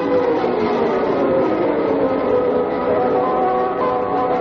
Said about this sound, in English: I could have sworn I heard thunder. Well, it happens out in the desert.